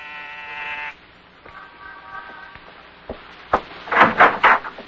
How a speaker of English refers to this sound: On the afternoon of your arrival in New York, you walk down the corridor of an apartment building in the East 70s, pause, and press a buzzer.